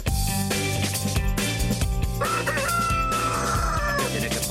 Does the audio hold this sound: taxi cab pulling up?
no